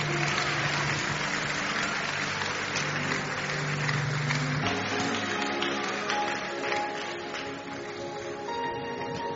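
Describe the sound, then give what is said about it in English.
An audience at Koinonia claps steadily for several seconds to honor Senator Grace during a presentation of certificates, a dense, continuous patter of many hands, with a faint sustained musical tone running underneath and the clapping thinning slightly toward the end. “Please keep clapping.”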